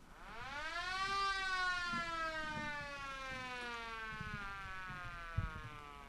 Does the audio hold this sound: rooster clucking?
no